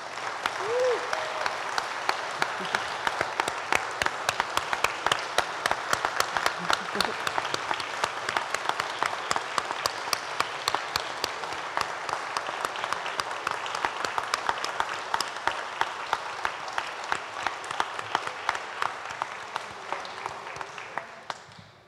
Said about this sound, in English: So, ladies and gentlemen, please join me in another round of applause for the 2022 class of the Ohio Senior Citizens Hall of Fame.